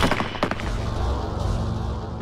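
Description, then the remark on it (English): A sharp, loud volley of rifle shots from a firing squad of eight rifles cracks out, a few near-simultaneous bangs, followed by a heavy low rumble that lingers to the end. “The deafening explosion of the eight rifles was the last thing Ahmed heard.”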